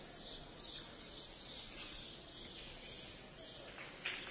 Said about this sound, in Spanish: solamente se interrumpe por el trino de las golondrinas de esta gran vía.